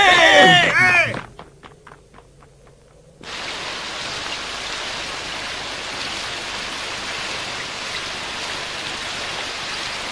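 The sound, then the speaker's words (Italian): Steady, hissing rain starts abruptly about three seconds in and continues evenly to the end, after a brief wavering voice-like tone and a short run of soft rhythmic taps. “Ricercati dalla polizia e per giunta sotto la pioggia.”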